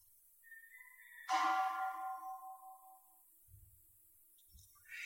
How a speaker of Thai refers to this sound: ใครฟังเสียงระฆังแล้วเกิดกุศลบ้างมีไหมใครฟังแล้วเกิดอกุศลบ้างมีไหมมีหลายคนนะฟังแล้วเกิดอกุศลเป็นน้ำลายไหลเนื่องจากจำได้สัญญาหมายรู้ว่าข้อระฆังแล้วเดี๋ยวจะได้กินข้าว